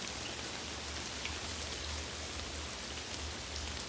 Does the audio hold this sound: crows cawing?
no